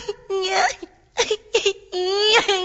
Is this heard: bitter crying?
yes